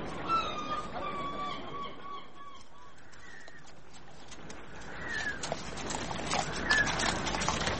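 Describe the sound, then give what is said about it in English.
The hooves of a town guard's horse clip-clop in a loose, uneven rhythm that grows louder toward the end, after a few high, honking animal calls at the start. Nobody speaks. “Polly, here's your damn horse.”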